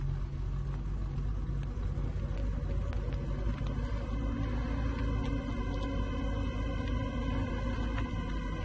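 car engine idling

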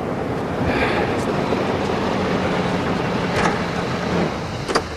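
car pulling up

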